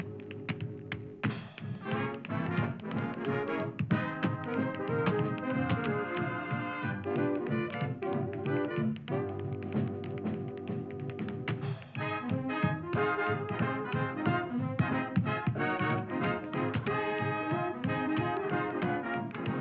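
Quick, rhythmic tap-dancing steps click steadily over a lively, full band accompaniment, the sharp taps blending into the busy music throughout, with no one speaking.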